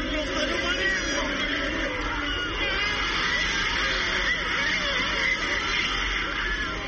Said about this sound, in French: La foule rassemblée au pied de l'immense statue a explosé comme une cocotte minute après le pénalty vainqueur inscrit par le capitaine Sadio Mané.